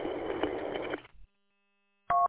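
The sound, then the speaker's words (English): About a second of dense, hissy noise, then a pause before a short, loud electronic alert tone with two steady pitches: a phone's dispatch alert going off once as a call comes in. No one speaks. “As a matter of fact, my phone's going off right now.”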